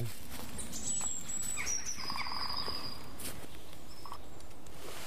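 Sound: green woodpecker laughing call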